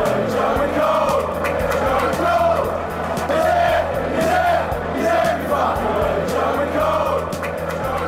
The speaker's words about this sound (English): Supporters treasure Cole's presence at Stamford Bridge. Indeed, now a television pundit, whenever Cole's spotted in TV studios or on the pitch with the cameras, the crowd still sings his name.